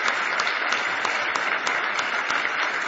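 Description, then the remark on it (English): Steady, sustained applause from an audience welcoming a man as he comes up one morning, a dense wash of many hands clapping at an even, fairly loud level with no voices standing out. “Give him a nice hand as he comes this morning.”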